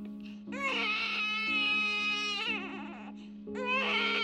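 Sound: infant crying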